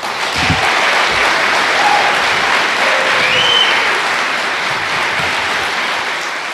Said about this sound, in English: Yeah, I'm going to clap too, by the way.